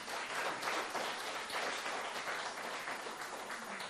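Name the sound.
applause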